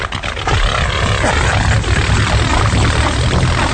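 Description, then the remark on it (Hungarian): A propeller airplane, presented as a foot-pedal-powered airplane, drones past, its engine a steady loud roar with shifting pitch as it sweeps by, no voices over it. “És hozott nekem, és nagyon hálás vagyok érte, az energia helyzetre való tekintettel egy lábhajtásos repülőgépet. Mester, mehet a repülőgép, tessék.”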